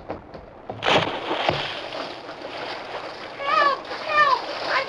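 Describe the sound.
A sudden loud splash as the Lone Ranger enters a stream above a falls, followed by steady churning and sloshing as he fights the strong current to reach boys in the water, with faint voices calling out near the end.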